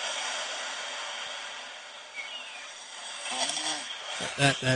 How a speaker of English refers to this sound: I know a lot of you would like to hear my wife snore again